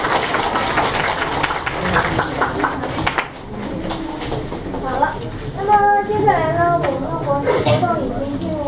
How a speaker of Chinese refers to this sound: 大家掌声感谢一下。